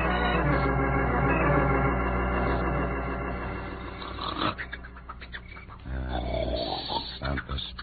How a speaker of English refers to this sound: Mother of me, they can hear that snore a mile away.